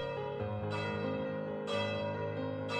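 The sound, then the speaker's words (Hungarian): Church bells ring out together in all the churches of Arad, Hungary, dense overlapping tones with fresh strikes about once a second, resonant and sustained, heard clearly with no voices. “Arad valamennyi templomában megkondultak a harangok.”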